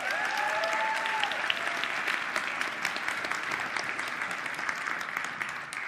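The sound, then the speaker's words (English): Steady, dense audience applause for the kids pastors at Vineyard Church fills the whole stretch, a broad wash of many hands clapping at even loudness, with a faint high whistle-like tone briefly at the start. “Kids pastors, another hand.”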